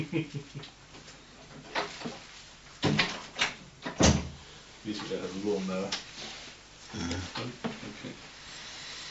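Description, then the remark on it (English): A door bumps shut with a solid wooden thud, preceded by a few knocks and rattles, while people murmur and talk. “You might want to close the door behind you.”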